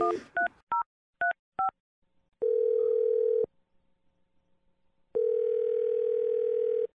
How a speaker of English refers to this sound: Let's dial the phone number, and we'll try and get you your second date.